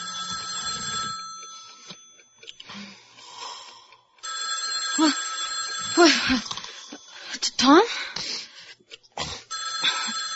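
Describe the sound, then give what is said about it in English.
A telephone bell rings loudly in long repeated bursts, its bright tone filling most of the stretch, while a voice briefly calls out and soft shuffling noises sound between the rings. “Get the phone.”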